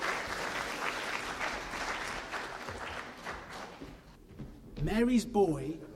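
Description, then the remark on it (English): A round of applause for performers playing angels and postmen, a steady crackle of many hands clapping for about four seconds, then fading as a voice begins speaking over the last of it. “Round of applause for these angels and postmen.”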